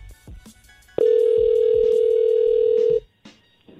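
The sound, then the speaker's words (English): A single loud, steady telephone ringback tone sounds for about two seconds while a call is placed on the radio show Ebro in the Morning, framed by faint clicks and room noise before and after. “Calling Dana.”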